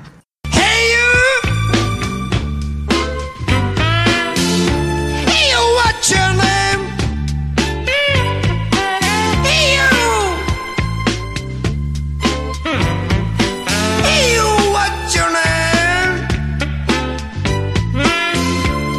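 A blues song plays from a vinyl record, loud and continuous, with a steady pulsing bass line under a gliding lead voice and full band accompaniment.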